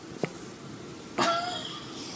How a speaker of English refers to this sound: You gonna put a fart noise in? Mm-hmm. You gonna remember to do that? Yes.